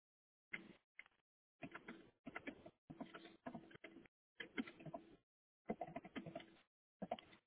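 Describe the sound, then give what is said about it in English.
Rapid keyboard typing comes in clustered bursts of clicks separated by short pauses, somewhat tinny, heard through a caller's unmuted phone on the line, with no one talking. “I'm going to need you to put that phone on mute or something because they're typing and we can hear.”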